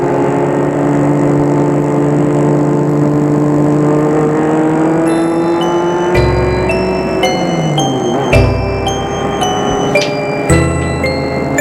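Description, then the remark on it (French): A car engine hums steadily, its pitch climbing as the car accelerates through the streets of Paris, with a few distinct gear changes breaking the drone. No one speaks. “Et la voiture roule, roule.”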